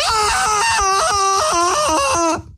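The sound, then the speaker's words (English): A loud Tarzan jungle-man yell, one long yodeling cry that flips sharply between high and low pitches several times before cutting off after about two seconds, with no other sounds. “When Cheetah died, Tarzan started to yell, "New underwear!"”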